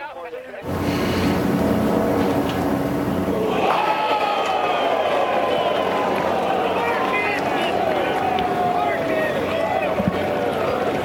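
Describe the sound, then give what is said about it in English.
A golf tournament crowd at the U.S. Open Golf Championship on Sunday, as Wyndham Clark won, roars steadily, a dense wash of many voices with shouts and calls rising and falling over it, staying loud for the whole stretch after a brief quiet start. “You can really hear that crowd. In the background, facts.”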